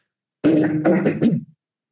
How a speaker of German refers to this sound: Merkst, ich muss mich ständig räuspern, das tue ich jetzt nochmal ausgiebig, bevor ich über Loma erzähle.